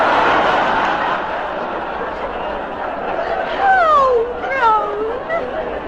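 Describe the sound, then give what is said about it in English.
A woman sobs loudly, her voice breaking into high, wavering wails that rise and slide downward in pitch, heard over a steady hiss of background noise. “for goodness sake, give over sobbing like that. Stop crying now, you mate.”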